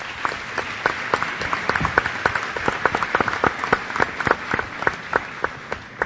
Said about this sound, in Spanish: Muchas gracias y un aplauso para Michael Ondaatje.